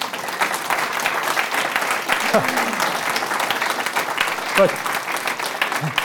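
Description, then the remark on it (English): A room full of people claps steadily for several seconds, a dense, even patter of hands with a few brief voices calling out beneath it. “There is no need for applause.”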